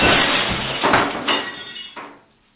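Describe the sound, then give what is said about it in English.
A lo-fi glass sound effect: a loud, noisy crash followed by a few sharp clattering hits, the last one trailing off into quiet. No voices. “Some shitty glass sound”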